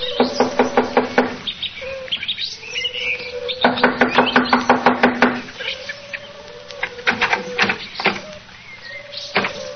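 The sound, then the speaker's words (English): Two quick bursts of rapid, resonant knocking on a door, followed by a few scattered single knocks. The knocks are fairly loud, with no voices. “I'll knock on the door.”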